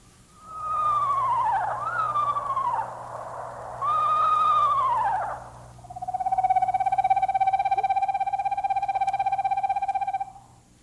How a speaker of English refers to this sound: I think I'll play that first one again. You know, the screech owl, because that's the kind Samantha is. That's the owl's name, Samantha Owl. Let's listen to this screech owl again.